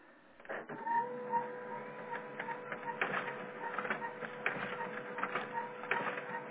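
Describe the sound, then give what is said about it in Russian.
A printer mechanism whirs and clicks steadily after paper has been loaded, with a sustained motor hum under rapid mechanical ticks and rattles, moderately loud, with no one speaking. “Загрузила бумагу, теперь он не хочет.”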